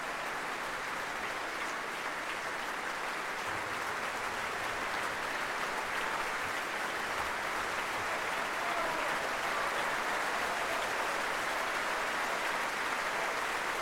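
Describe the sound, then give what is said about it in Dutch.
Sustained, dense applause from a large audience in the main hall of the Concertgebouw in Amsterdam, for violinist Alena Bajeva and the Düsseldorfer Symphoniker under Alexandre Bloch. It is a steady wash of many hands clapping at full volume throughout, with no pauses and no voices standing out. “Veel applaus en het bijbehorende bloemetje voor Alena Bajeva.”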